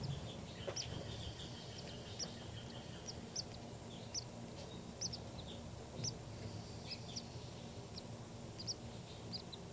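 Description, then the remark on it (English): Baby birds in a nest make thin, high-pitched peeping calls in quick, irregular bursts, about a dozen short chirps over a steady low rumbling background hum. “These are the calls of the baby birds.”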